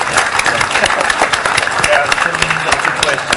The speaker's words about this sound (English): Applause time.